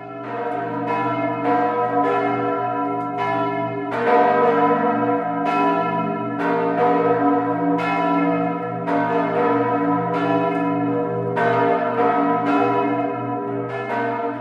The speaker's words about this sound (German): Das ist ein herrlicher Sound, den ich immer wieder gerne höre. Und es sind die Glocken von St. Jakobi.